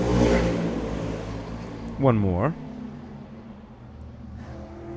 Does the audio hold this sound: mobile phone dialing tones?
no